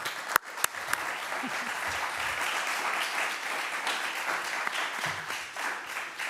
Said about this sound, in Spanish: Entonces, antes de empezar, os pediría un fuerte aplauso para esta película.